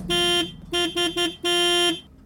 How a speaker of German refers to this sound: Wir haben der Stiftung Warntest beim Testen der Sirenen mal ein wenig über die Schulter geschaut. So, mal fangen wir jetzt mal mit dem Test Nummer 1 an.